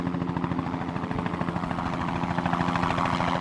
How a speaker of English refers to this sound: Here comes the copter right now.